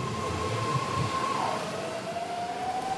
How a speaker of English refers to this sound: The sound of San Francisco is the BART train.